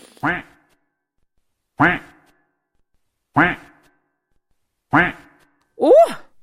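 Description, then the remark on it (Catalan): A voice imitates the duck in a children's story about a little rat seeking a partner, with five loud, nasal quacks spaced about every one and a half seconds, the last one higher and more warbling than the rest. “Doncs va començar a nyequejar.”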